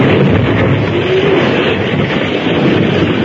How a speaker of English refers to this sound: Then at a word from the masked man, the first explosion was set off.